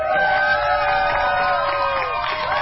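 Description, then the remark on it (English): A crowd cheers steadily, many voices whooping and shouting together in a dense, sustained roar of celebration as a gay pride rainbow flag is raised over the Wisconsin state capitol for the first time, as part of LGBTQ month, with no pause for the full length. “Sounds of cheers as a gay pride rainbow flag gets raised over the Wisconsin state capitol for the very first time as part of LGBTQ month.”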